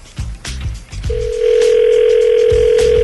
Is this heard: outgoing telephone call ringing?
yes